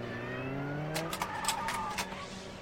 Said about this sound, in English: So that fast-paced car chase that puts us on the edge of our seats is really more like a slow, boring slideshow or PowerPoint for a pigeon.